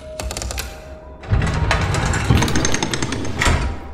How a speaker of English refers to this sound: The footsteps paused for a moment, and the racket of gears churning overtook the room.